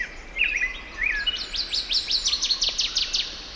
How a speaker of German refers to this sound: Das ist doch mal ein richtig schönes Vogelkonzert gewesen.